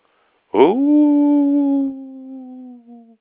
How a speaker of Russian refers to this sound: В это время слева из тумана завыла собака.